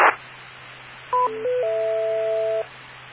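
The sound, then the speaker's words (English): A short sequence of electronic DTMF touch-tone beeps, one brief tone followed by a longer steady dual tone, heard over a hissy, humming radio channel with no voices, sent after someone began giving a call sign. “I got the W, and then there were a bunch of tones after that.”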